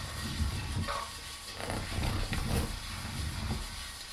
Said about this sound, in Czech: Máslo jde na pánev.